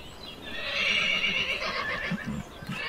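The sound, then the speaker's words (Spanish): A horse lets out one long, shrill whinny, quavering and loud, as horses are hurriedly led to the shafts of a carriage, with a few soft hoof thuds near the end and no voices. “El otro se apresura a llevar los caballos a las varas.”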